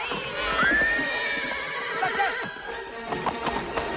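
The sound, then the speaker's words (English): A carriage horse in a park, startled by a black cat, lets out a loud whinny with a rising and falling harmonic cry, followed by the clatter of hooves and rattling movement as it gallops away still pulling the carriage. “The man jumps on a bike and chases through the park after his horse, which is still pulling the carriage.”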